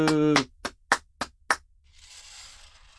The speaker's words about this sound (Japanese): はい、拍手。